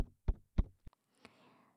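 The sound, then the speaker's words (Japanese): Four soft, muffled pats land in a slow, steady rhythm as a palm gently and lightly pats someone, followed by a faint fabric rustle. “私の手のひらの音も覚えててほしいな。”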